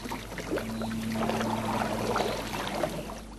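Rowboats and canoes on the Tisza river, with people aboard watching mayflies swarm, a steady wash of splashing and lapping and a faint low hum running underneath, continuous throughout with no voices.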